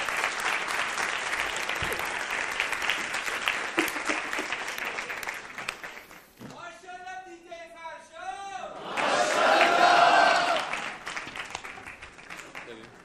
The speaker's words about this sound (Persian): تشویقش کنید.